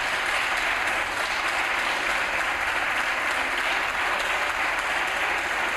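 Sustained applause in parliament for the Minister of Health as he is given the floor to present a royal decree-law, a dense, steady wash of clapping that stays loud and even throughout without pausing, with no voices standing out and no booing.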